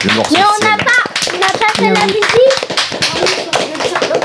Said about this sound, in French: Bravo à l'atelier radio Guy Lévy, vous pouvez vous applaudir.